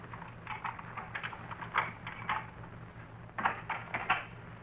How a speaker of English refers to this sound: I thought I heard footsteps outside the house. Footsteps? Just listen.